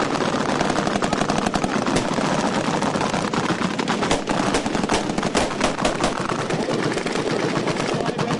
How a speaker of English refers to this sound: Skill is its advantage. And to hone it, they switched in training from blanks to live ammunition.